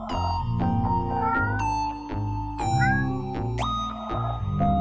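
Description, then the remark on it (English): A part-tabby, part-Siamese cat meows loudly, letting out four or five long, drawn-out yowling meows back to back with no talking. “A cat. Part tabby. Part Siamese.”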